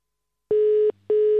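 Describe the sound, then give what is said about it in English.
A telephone ringing tone in the British double-ring pattern: two short buzzy pulses separated by a brief gap, clear and steady, heard alone after a moment of silence. “Why does it sound like I'm using a phone in the UK?”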